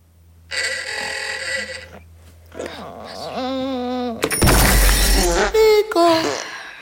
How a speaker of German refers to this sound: Ja, ich habe was Schnarchen gehört und einen Wecker